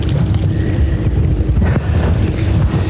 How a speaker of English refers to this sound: Some boats just went by me.